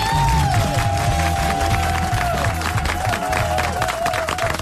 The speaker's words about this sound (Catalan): Per tant, un aplaudiment per